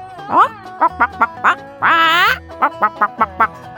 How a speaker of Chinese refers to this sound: 这里有一只母鸡耶，它在咕咕叫。